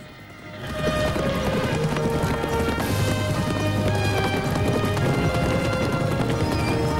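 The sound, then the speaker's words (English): A herd of mustang horses gallops through the Golden Valley among conifer-clad slopes, chased by two cowboys on horseback. A dense, continuous rumble of pounding hooves swells in within the first second and stays loud, with occasional whinnies over the thundering. “The cowboys wave coiled lassos in the air as they gallop along with the pack.”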